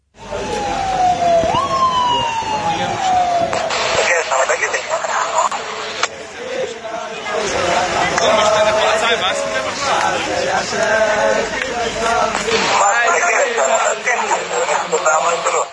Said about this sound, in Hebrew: אני רוצה להשמיע למאזינים את אותם ריקודים שהיו שם על הכביש.